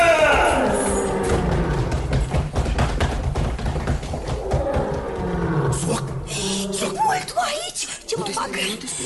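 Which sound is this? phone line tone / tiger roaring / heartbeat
tiger roaring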